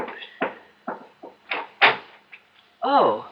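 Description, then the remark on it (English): The front door of an old mansion on Manitou Mountain, used as a ski lodge, being opened: a series of irregular wooden clunks and rattles from the latch and handle, followed by a loud, wavering hinge creak as it swings open. “Oh, there's somebody at the front door.”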